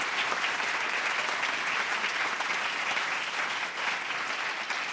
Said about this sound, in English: We want to give a big round of applause to Skylight Music Theater for hosting us this evening. Please give them a huge round of applause.